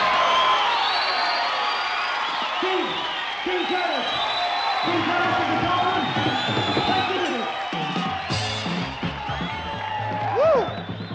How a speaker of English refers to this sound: As the crowd bursts into rapturous applause